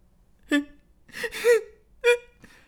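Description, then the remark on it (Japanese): Someone sobs and whimpers in short, broken bursts: a sharp cry, a longer wavering wail, then two more catching sobs, fairly loud with quiet between them. “よ、また泣いてんのか。”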